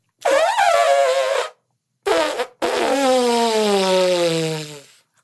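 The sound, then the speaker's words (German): Three loud fart sounds: a long buzzing blast, a short sharp one, then a long drawn-out toot that slides down in pitch before trailing off, with no talking. “Heute geht es um den Pups.”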